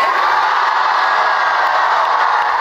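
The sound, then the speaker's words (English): A large crowd at a Kamala Harris campaign rally in North Carolina cheers in a steady, dense roar that holds at full loudness throughout, with whoops and shouts blending into the din and no single voice standing out. “Well, the crowd loves to hear that.”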